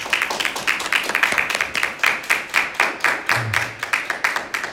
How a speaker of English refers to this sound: Come on, give yourselves a round of applause.